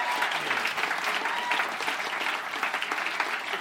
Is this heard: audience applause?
yes